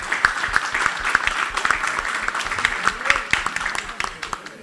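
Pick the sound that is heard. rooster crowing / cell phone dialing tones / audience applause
audience applause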